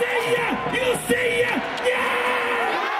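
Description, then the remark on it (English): A crowd at a KBO baseball game cheers and chants in unison, voices rising and falling in a steady rhythmic pattern over a constant roar of noise that stays loud throughout. “You know, literally from first pitch to final out, cheering.”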